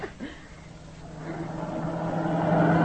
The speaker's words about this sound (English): Hey, look at those cars whiz by.